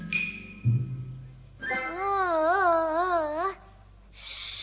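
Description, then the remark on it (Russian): A hungry baby girl cries in one sustained, wavering wail lasting about two seconds, fairly loud, then breaks off, leaving a quiet hiss behind. “Шш, не плачь, не плачь, маленькая.”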